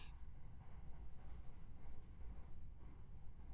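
A steady, low rumble fills the inside of a moving train carriage, with a constant muffled roar and faint rattling. It continues evenly throughout, and nobody speaks.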